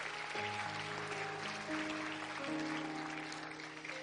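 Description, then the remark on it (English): A church audience claps steadily for their pastor as one dense, continuous wash of applause, with sustained organ or keyboard chords held underneath and shifting pitch a few times. “And they're clapping for their pastor, and we are too.”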